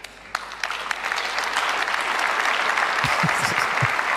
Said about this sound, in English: Other women just forcefully clapping.